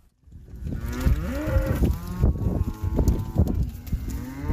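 Several cows moo in overlapping, drawn-out low calls, one starting right after a brief silence and others joining, with steady rustling and shuffling beneath and no talking.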